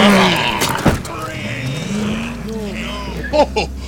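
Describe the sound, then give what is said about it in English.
A 1953 Studebaker car's engine turns over inside a building and settles into a low, steady rumble as it drives off, with voices talking over the motor noise. “What, how the hell did you get a 53 Studebaker in the building?”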